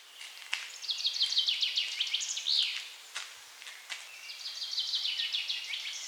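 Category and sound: bird, chaffinch song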